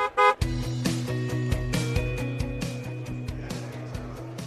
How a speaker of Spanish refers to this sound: Hemos tocado el claxon